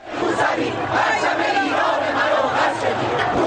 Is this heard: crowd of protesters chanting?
yes